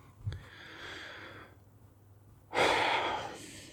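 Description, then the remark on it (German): A man breathes heavily: a softer, drawn-out inhale followed after a short pause by a louder, forceful exhale, with no talking. “Da muss er erstmal wieder schwer atmen.”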